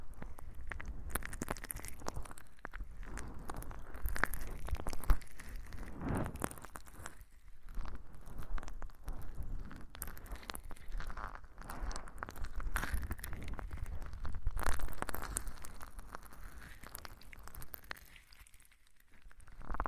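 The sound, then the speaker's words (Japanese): Soft, continuous rubbing as a towel gently wipes an ear and the foam off it, brushing with gentle crinkly friction that swells and fades in slow strokes, fairly quiet and steady with no voices. “ということで、お次は、タオルで耳を優しく拭いていきましょうか。”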